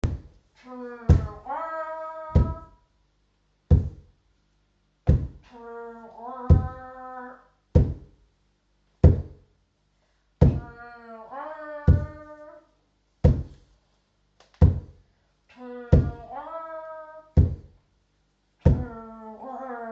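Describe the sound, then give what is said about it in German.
Feet stomp hard on the floor in a steady, heavy beat, roughly one thump per second, as participants act out an elephant. Voices join in with loud, wavering calls imitating an elephant's trumpet. “Jetzt darfst du mit uns mitmachen und kräftig mit deinen Beinen stampfen und laut tröten.”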